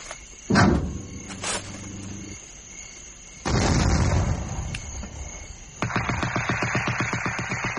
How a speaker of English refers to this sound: Suddenly, the sky towards Saigon flared with light. There was an explosion, a machine gun spat and spat again and was silent.